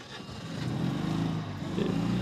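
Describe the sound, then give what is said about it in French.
A Citroën 2CV engine starts and idles, a steady low purring putter with a slight rise in level at the start, running alone without any voices. “Et donc, vous l'entendez, cette deux chevaux son moteur qui ronronne.”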